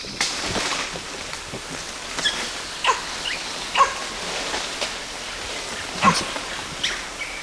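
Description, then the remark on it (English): Short animal barks from the animal called LB and high, thin squeals from the animal called CW come in scattered, fairly faint bursts over a steady hiss of outdoor background noise. “LB barking, CW now squealing.”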